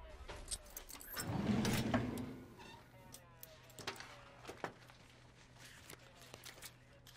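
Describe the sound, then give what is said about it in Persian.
Metal drawer keys jingle and clink briefly as they are handed over, followed by a few scattered light clicks and taps over a quiet, faintly humming room. “لطفاً کلید کشوتون رو بهم بدین.”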